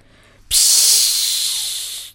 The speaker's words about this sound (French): La théière s'est mise à siffler. Je l'ai posée sur le plateau à côté des biscuits sans sucre et je suis entrée dans le salon avec le goûter.